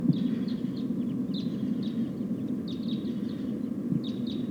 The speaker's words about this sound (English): It sounds like a flock of type 2 crossbills is flying over. About five or six birds.